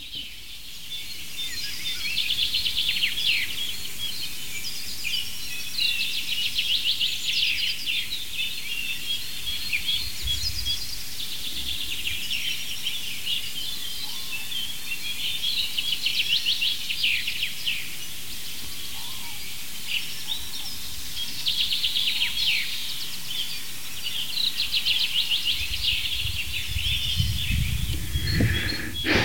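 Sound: common chaffinch singing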